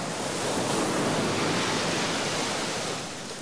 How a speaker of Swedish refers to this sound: Och man hör vattnet plaska.